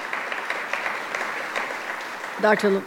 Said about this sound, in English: Let's give him a round of applause and all the men and women in labor who are here today.